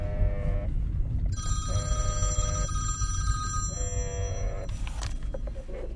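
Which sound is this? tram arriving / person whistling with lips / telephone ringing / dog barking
telephone ringing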